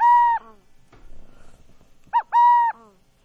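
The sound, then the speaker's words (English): A burrowing owl calls twice, a short hooting coo at the start and another after a brief quieter stretch with faint rustling, each note clear and fairly loud with no talking. “That's a burrowing owl”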